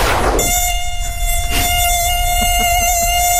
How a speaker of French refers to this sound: Mouche.